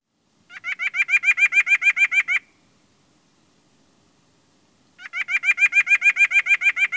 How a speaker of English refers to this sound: The nuthatch's nasal yank, yank sounds like this.